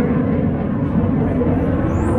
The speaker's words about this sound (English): Damn, fuck is that, Trump? Is that Trump flying by? Big ass plane.